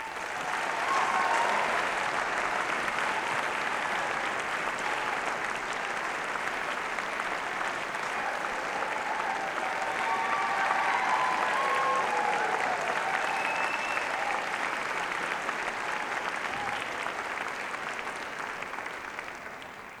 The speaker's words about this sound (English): So with all that said, let's bring her out here with a warm round of applause